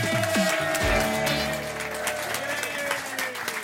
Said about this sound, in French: Faites un tonnerre d'applaudissements pour Patrick Sébastien.